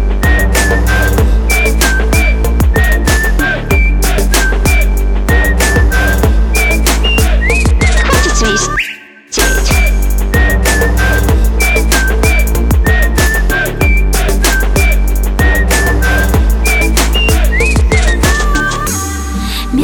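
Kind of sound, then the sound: human body sound, whistling melody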